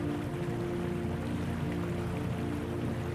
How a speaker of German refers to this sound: Ein heißes Sprudelbad soll die Muskeln massieren und Gliedmaßen entspannen. Steig nur hinein. Es blubbert und brodelt wie in einem riesigen Kessel.